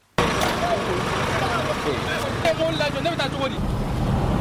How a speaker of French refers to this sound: C'est l'ambiance à Diboli parmi les centaines de camions stationnés dans la ville. Certains transportent des aliments. Ces derniers tentent de se frayer un chemin.